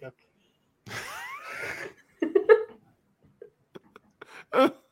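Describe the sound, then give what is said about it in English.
A person hiccups, a few abrupt voiced gulps spaced across a few seconds, mixed with breathy vocal noises and faint clicks in between. “Hiccup.”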